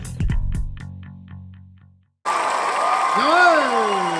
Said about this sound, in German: Es ist bloß voll hier im Stuhl. Total ausverkauftes Haus. So, ich mach die Tür wieder zu. Das ist einfach zu laut mit den Leuten.